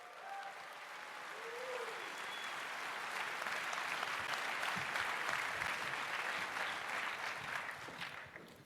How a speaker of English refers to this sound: Applause, applause, applause.